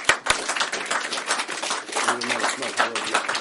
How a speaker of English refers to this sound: All right. We'll applaud again.